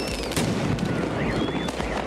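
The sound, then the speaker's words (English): A dense volley of fireworks going off, with several sharp bangs and crackling bursts in quick succession over a constant roar, plus faint whistling streaks rising through the noise. “most of the time we hear fireworks exploding from a distance as they soar into the sky”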